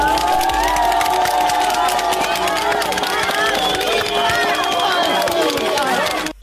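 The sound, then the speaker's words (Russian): A crowd cheers and shouts continuously over steady applause as miners come out of the mine after six days, many voices overlapping in a loud, dense roar with rising and falling yells of 'Well done!' throughout. “Вот они вышли из-за боя через 6 суток под аплодисменты и возгласы «Молодцы!».”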